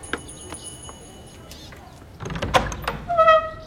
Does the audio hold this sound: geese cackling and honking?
no